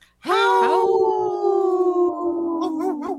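A single loud, drawn-out wolf howl that rises sharply and then holds a long, steady tone, sinking slightly in pitch over about three seconds, with nothing else around it.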